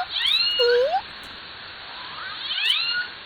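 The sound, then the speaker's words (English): Two squeaky, mewing calls of Southern Resident killer whales on a hydrophone, each a short harmonic sweep rising and falling in pitch, separated by a pause over a steady hiss of underwater background noise. “But each family group has its own distinct dialect, and these can be used to almost immediately recognize which one has arrived in range of a hydrophone.”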